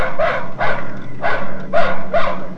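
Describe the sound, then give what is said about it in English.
A dog barks five times in a steady, evenly spaced rhythm, each bark loud and sharp, with a low steady hum underneath and no voices. “This is a dog.”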